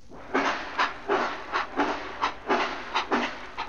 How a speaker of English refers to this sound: Bill McBride remembered a humorous incident when he was a boy traveling on the railway to Lake Bennett in 1899. The train was chugging along when just a little